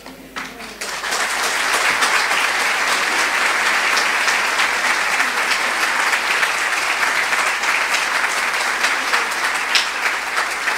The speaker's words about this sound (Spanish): Que se prolonguen esos aplausos, qué linda reflexión